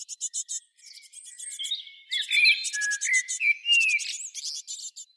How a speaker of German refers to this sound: Jetzt, damit sich eure Ohren noch ein bisschen entspannen können, Vogelgezwitscher.